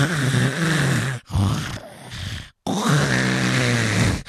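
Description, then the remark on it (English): A voice imitates the loud, rasping, synchronized snoring of a couple sleeping open-mouthed on a plane: three long, throaty snorts in a row with brief pauses between them, forceful, with no other talking. “And then they start to snore.”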